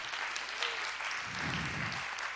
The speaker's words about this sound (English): Let's give the Lord a big hand clap of praise.